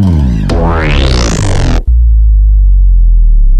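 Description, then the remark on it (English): A loud, buzzy synth bass dive sound-design effect sweeps upward in brightness, then abruptly drops into a deep, dark low-end rumble that holds steady to the end, with no voices present. “Bass dives.”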